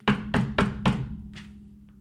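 knocking on a door

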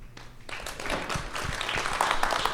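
audience applause

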